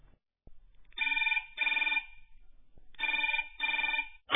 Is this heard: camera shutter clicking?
no